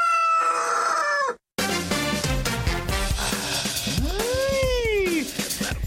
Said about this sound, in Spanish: Amárrele el pescuezo a ese gallo.